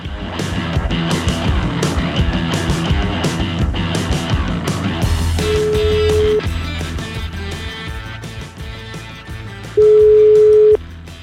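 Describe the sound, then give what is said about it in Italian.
Two steady telephone ringing tones of an outgoing call placed from Milan sound a few seconds apart, the second louder, over busy background music that plays throughout. “Sentiamo comunque, ragazzi, partite con la telefonata, vai.”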